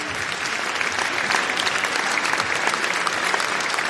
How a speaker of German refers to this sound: Und ich denke, wenn er jetzt kommt mit den beiden anderen, Applaus.